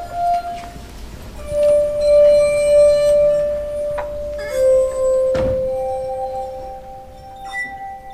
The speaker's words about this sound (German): Musik auf der Glasharfe, das lernen gerade die Kinder der Grundschule Bad Münder.